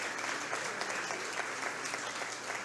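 An audience claps steadily, a dense, even patter of many hands at moderate volume that holds without pause for the whole stretch, with no voices heard.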